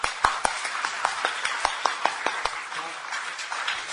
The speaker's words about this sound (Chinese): 你明白为你们天上的父，为了神这么爱我们，我们为神鼓掌，好不好？